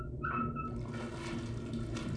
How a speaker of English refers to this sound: You hear that? It sounds like water or waves.